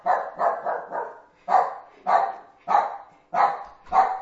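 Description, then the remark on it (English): A dog barks repeatedly and fairly loudly, a quick cluster of four barks followed by evenly spaced single barks about every second, with no one speaking. “tell that dog to be quiet.”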